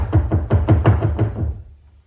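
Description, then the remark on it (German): A quick series of about eight solid knocks on the door of apartment number 3, a second try, evenly spaced, the last few softening before everything goes quiet. No voices. “Ist jemand dort, sprach der Reisende und klopft an die mondbeschienene Tür?”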